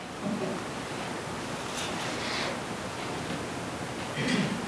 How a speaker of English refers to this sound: Man, that was a strong wave. If you stand there for much longer, you're going to get another one. In fact, the longer you stand there in that sand, you're going to continue to get waves slamming, slamming, slamming.